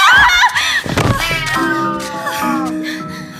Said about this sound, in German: Eine Katze!